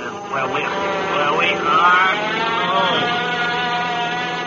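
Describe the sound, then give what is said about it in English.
The steady, droning propeller engine of the Bob and Ray traffic plane, flying somewhere over America in hazy weather, hums throughout at an even, loud level, with faint voice-like sounds rising and falling over the buzzing motor. “Wally Ballou in the famous Bob and Ray traffic plane flying somewhere over America this week in New York, I guess.”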